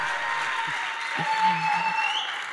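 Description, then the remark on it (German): Steady, dense applause from an audience at a church service, given for King Jesus, a continuous wash of clapping that swells slightly midway, with a faint voice murmuring underneath. “Und jetzt lasst uns einen noch bisschen lauteren Applaus für König Jesus geben.”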